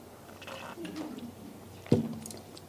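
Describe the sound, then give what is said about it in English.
Quiet mouth sounds of someone sipping a drink, with soft wet slurps and a brief sharper gulp or swallow near the end, set against a faint hum. “Let me take a sip.”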